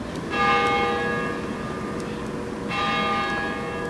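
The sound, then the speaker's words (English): Two resonant bell strikes from the Cathedral of the Immaculate Conception in downtown Kansas City, a couple of seconds apart, each ringing out with shimmering overtones that hum and slowly fade over a steady background of outdoor ambience. “The bells of the Cathedral of the Immaculate Conception ring out across the western end of downtown as office workers rush to get lunch.”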